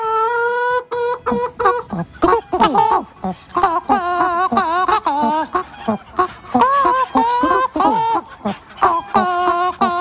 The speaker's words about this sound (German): ja, unsere Hühnerchen, die gackern schön vor sich hin. Lassen wir sie noch einmal das Lied anstimmen.